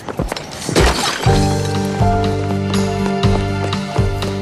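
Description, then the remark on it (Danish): Glass bottles smash in a loud burst of shattering during a dramatic argument in a TV drama scene, followed by a few sharper crashes spaced out over a sustained, humming musical drone. “Ja, dramatiske skænderi her og smadrede flasker.”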